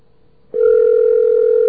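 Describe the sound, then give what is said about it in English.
A ringing tone on a telephone line after dialing a 1-800 Bell Atlantic Consumer Information Line: a faint hum, then an abrupt, loud, steady electronic tone that holds without a break to the end. No one speaks. “See, it's the same ring.”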